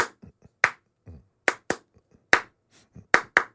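Hands clap out a syncopated surf-style beat, sharp close claps in an uneven repeating pattern with a few softer muffled taps between them, no voices.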